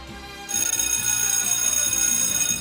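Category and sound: signal or alarm, school bell ringing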